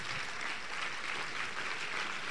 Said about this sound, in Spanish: Bueno, de un fuerte aplauso a Jesús.